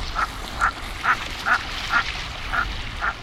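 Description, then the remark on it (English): A common merganser duck gives a steady series of seven short, hoarse croaking calls at an even pace, clear over a soft background hiss. “Around this time of year, common mergansers are flying south from Canada to wintering grounds in the lower 48.”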